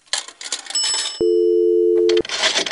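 A telephone dial tone hums steadily for about a second as someone gets on the phone to call the White House, bracketed by bursts of clattery handling noise and faint high ringing tones, fairly loud, with no talking.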